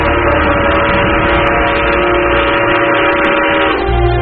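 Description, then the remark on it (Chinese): A train whistle blows from afar in one long, unbroken blast, holding a steady, rich-toned pitch for about four seconds before its tone shifts slightly at the end. No voices are heard. “远处的汽笛已经拉响，我就要奔赴远方”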